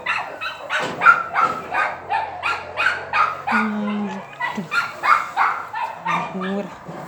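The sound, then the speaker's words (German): A new female dog barks and yips in quick, repeated bursts, steady throughout, with a few brief whiny tones slipping in between the barks. “Eine neue Hündin.”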